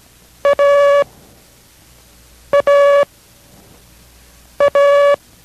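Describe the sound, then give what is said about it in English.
Morse code lesson from station K6RAU in Merced: the letter A, 'A as in Abel', sent three times as a short beep then a long beep, each pair spaced by a pause. The steady, buzzy mid-pitched tone is loud and plays alone. “Listen carefully to the sound of each. This is A as in Abel.”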